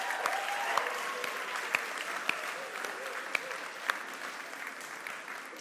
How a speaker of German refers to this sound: Ja, herzlich willkommen zum Gottesdienst hier heute und ich glaube, wir können erstmal einen riesigen Applaus an die Band geben, die hat das echt einfach spitze gemacht.